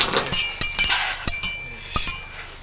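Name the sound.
glasses clinking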